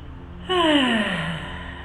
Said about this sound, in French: Vous laissez la mâchoire tomber et l'air qui sort. Et vous vous libérez. Vous vous bâillez. Laissez sortir toutes les tensions.